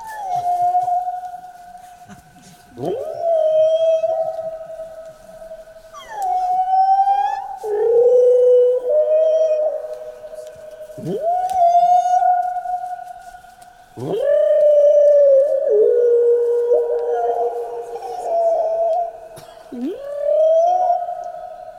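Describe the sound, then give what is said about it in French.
A whale-calling instrument called a baleinophone sounds a series of long, sliding moans and whoops, one after another every few seconds, over a faint steady hum, with no talking. “Il s'appelle le baleinophone. Je pourrais appeler les baleines dans le cosmos.”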